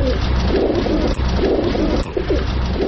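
Pigeons coo continuously in a dense, overlapping chorus, low throaty rolling calls, with a steady wash of flock noise and faint rustling throughout.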